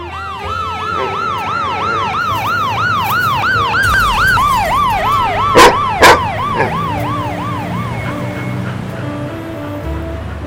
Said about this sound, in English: when suddenly she was startled from her daze by an approaching siren.